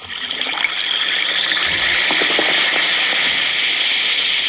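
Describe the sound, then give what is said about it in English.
An Alka-Seltzer tablet fizzes in water: a steady, bright hiss of bubbling with tiny crackling pops scattered through it, holding an even loudness for several seconds without any voices. “Listen to it fizz.”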